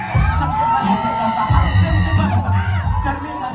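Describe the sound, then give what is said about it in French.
A crowd cheers and yells loudly and continuously, a dense wash of whoops and shouting voices with heavy low-end rumble underneath: an audience in a bar in Israel at a live hip-hop concert by performers from Ramallah, cheering lyrics that criticize Palestinian Authority corruption and the Israeli occupation. “Les cris du public, c'est pour acclamer les paroles qui critiquent à la fois la corruption de l'autorité palestinienne et l'occupation israélienne, parce qu'ils se défient de l'un et de l'autre.”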